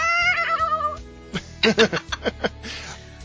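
A cat's drawn-out, wavering meow with a shaky, warbling pitch lasts about a second as the cat is held and shaken a little while it meows, followed by several short bursts of laughter.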